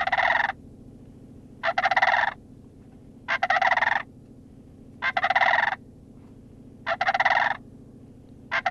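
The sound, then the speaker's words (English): A sandhill crane gives loud, rolling rattled calls, about six in a row at a steady pace with short pauses between, over a low, constant background hum. “Let's take a listen to a sandhill crane.”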